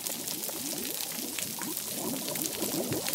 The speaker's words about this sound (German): es gibt noch eine Lärmquelle und deren Auftreten widerspricht dieser Theorie so ein wenig und das ist das Knallen der Krebse.